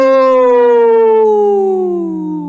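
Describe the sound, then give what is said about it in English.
A single long wolf howl holds a steady, strong tone and slowly glides downward in pitch, sounding loud and clear on its own without any talking. “Yeah, you got to get that wolf up.”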